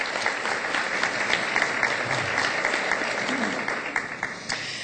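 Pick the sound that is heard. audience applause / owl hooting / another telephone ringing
audience applause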